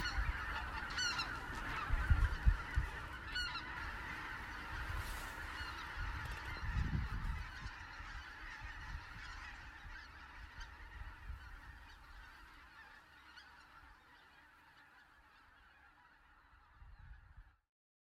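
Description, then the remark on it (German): A large flock of migratory geese honks continuously, a dense overlapping chorus of calls that gradually thins and fades, with low rumbling wind or movement underneath, outdoors at a natural wetland that serves as a resting stop on their migration flight. “für viele Zugvögel ist dieses naturbelassene Feuchtgebiet auf ihrem Flug ein wichtiger Rastplatz, ohne den viele Zugvögel ihre Strecke nicht bewältigen könnten.”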